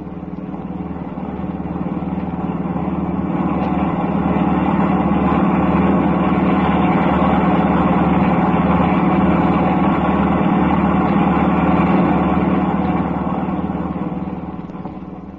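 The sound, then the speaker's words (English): A car's steady, low engine drone runs continuously as it starts up again and drives on for miles, rumbling at a constant pitch with a faint whine above, fading in at the start and easing off at the end, with no voices. “The car starts up again.”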